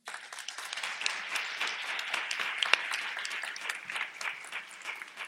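Many people applauding steadily for several seconds, a dense, even patter of many hands clapping at moderate volume with no voices over it.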